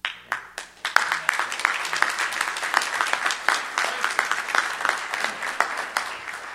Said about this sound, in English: If that don't deserve a round of applause for God, nothing does.